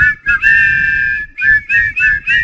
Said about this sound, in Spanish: A ver, ¿me lo podéis silbar? ¿Sabéis silbar alguno? A ver. Poneros de acuerdo, a ver. Yo no sé silbar. Poneros de acuerdo. Una, dos, tres.